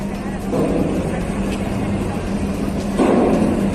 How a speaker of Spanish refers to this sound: Este sonido que estamos escuchando es el sonido de los autobuses, autobuses fletados por 5 comunidades autónomas que han ido a recoger a los 170 estudiantes que viajaban en un ferry hasta el puerto de Valencia, que han llegado hace una hora,